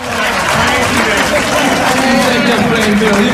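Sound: audience applause and cheering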